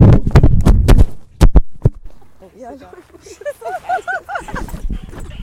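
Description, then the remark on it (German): A dog dashes close past, and heavy thuds and clattering bumps follow in quick succession as equipment is knocked about. High, wavering whines and voices come afterward. “Ja, es ist gerade Marla mit einem Wahnsinnssatz zwischen uns durchgerannt und hat Aufnahmegerät und Mikros mit sich mitgerissen.”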